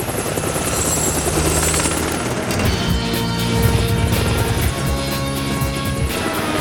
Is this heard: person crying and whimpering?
no